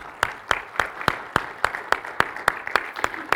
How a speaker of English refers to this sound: So let's go and give God a round of applause, shall we?